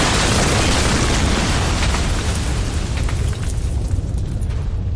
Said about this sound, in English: The explosion took out the village, cleared the valley of every living thing, and was heard as far away as Halifax.